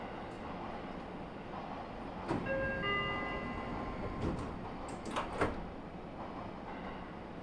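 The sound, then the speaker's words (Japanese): A short electronic chime sounds over steady train rumble, followed by a few sharp thuds and clunks as the sliding doors of a local train bound for Kotesashi shut on the platform 1 side, on the left in the direction of travel. “進行方向左側一番ホーム側ドアが閉まります。”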